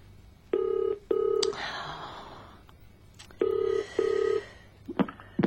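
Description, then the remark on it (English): A telephone rings in two double bursts, brr-brr then brr-brr, each pair a pause apart, loud, with a short rustle and a gasp between the rings. “It's ringing. Good. Come on, come on.”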